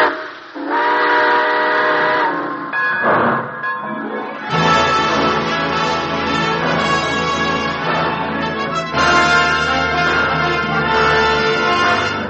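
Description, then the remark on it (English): A steam train whistle blows in long, loud, harmonic blasts as the train pulls out, starting with a short toot and swelling into sustained chords over a low rumbling hiss of the engine. “All aboard. Well, dear friends, it looks as though we're ready to pull out.”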